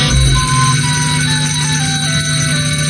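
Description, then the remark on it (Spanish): A steady, loud electronic alarm rings continuously with bright, bell-like tones and a sustained low hum underneath, no voices present; these are the alarms marking the start of a radio programme, just after 9 in the morning. “Suenan las alarmas que indican el inicio del programa.”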